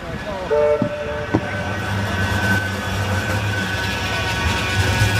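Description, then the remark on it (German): A tram in Manchester rolls past, a steady low rumble with a brief horn-like tone and squealing metallic overtones near the start, sustained through the whole stretch. “Den Sound drauf von der Bahn hier, der ist so hässlich, ne?”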